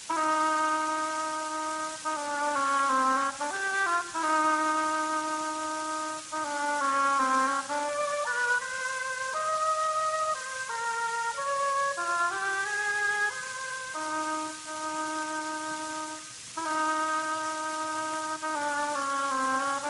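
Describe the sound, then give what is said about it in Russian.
An oboe plays the duck's theme in a symphonic fairy tale where each character is portrayed by its own orchestral instrument: a slow, reedy melody of sustained notes that glide and step up and down in a middle register, steady and fairly loud throughout with no voices. “Утка – гобоем.”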